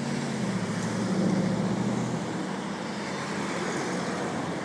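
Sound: street traffic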